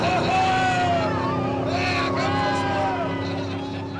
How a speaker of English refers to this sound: There's a man with a large, bright orange flag standing on the bow. When the boats pull into line, the flag drops, and the captains hit the throttle.